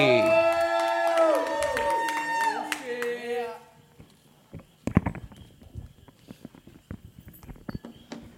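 A burst of loud cheering and whooping from a crowd fades after a few seconds, leaving scattered, uneven claps and thumps at a moderate distance.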